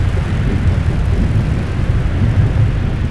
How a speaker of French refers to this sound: Les moteurs grondent. La propulsion est saisissante et les capsules montent dans le ciel dans un jet de couleurs.